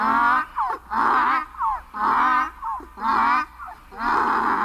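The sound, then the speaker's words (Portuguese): A donkey brays loudly, a rhythmic run of harsh, wheezing hee-haw cycles repeating for several seconds with brief gasping breaks between them, and no talking. “Começou a relinchar.”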